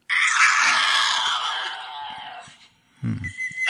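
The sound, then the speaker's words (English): Harsh, raspy screeching from two Tasmanian devils squabbling over food, sex, or territory, a long sustained shriek fading out, then a lower growling snarl and renewed screech after a brief pause, with breathing audible. No talking. “Here are two Tasmanian devils having a discussion about food, sex, or territory.”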